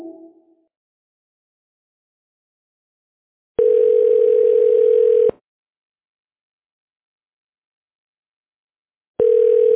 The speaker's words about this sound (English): The person you are trying to reach, it's on the phone. Leave your message at the tone.